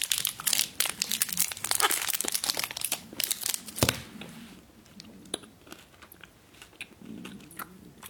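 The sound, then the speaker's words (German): Crinkly Toblerone wrapper rustling and tearing for a few seconds, then quieter crunching and chewing as the Toblerone chocolate is eaten, with scattered small clicks and no talking. “Tut mir leid, ich muss die Schokolade kurz essen.”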